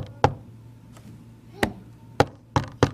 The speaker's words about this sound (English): So number one, don't knock like the police. Have a friendly knock, something like this.